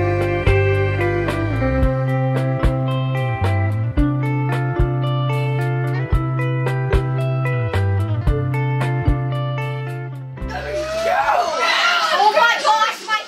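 children shouting

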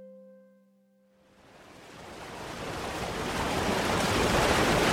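water rushing

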